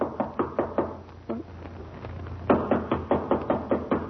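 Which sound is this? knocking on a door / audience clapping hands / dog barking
knocking on a door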